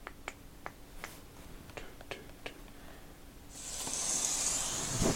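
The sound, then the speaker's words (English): Rain imitated by hand and mouth: a sparse run of crisp finger snaps like scattered drops, then a loud, steady breathy hiss swelling in for the last second and a half, with no talking. “Let me do rain.”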